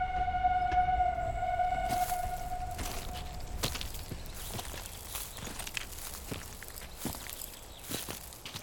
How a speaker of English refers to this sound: And then the passengers heard the steam whistle.